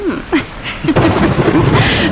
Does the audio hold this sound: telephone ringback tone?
no